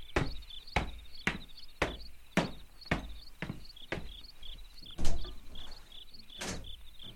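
Someone raps on a door at night about a dozen times, sharp knocks in an uneven, insistent rhythm with a couple of quick doubled strikes, over a quiet, steady background hum.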